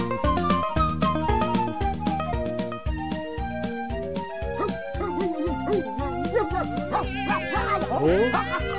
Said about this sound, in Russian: Собачки что-то в деревне забеспокоились. Никак звери чуют. Да нет, деда. Это вон Муренка за нами по деревне бежит, от собак отбивается. Собачонки к ней подступить не смеют.